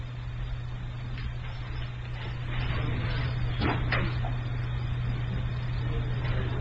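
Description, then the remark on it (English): A door is pulled shut during a class, with a couple of soft thuds and clicks midway through, over a steady low electrical hum. “Could somebody close the door because the children don't understand there's a class going on?”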